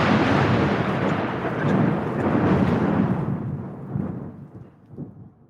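A loud, rumbling roll of thunder over a steady wash of heavy rain, the crackling high end fading midway as the deep rumble trails off and swells again briefly near the end.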